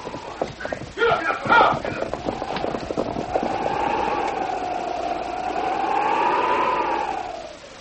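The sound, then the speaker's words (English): Horses gallop off in pursuit of a masked man in a rapid clatter of hooves that thins out as they move away, while a steady wavering musical tone rises over them and holds to the end. “Well, get your horses. Get after him.”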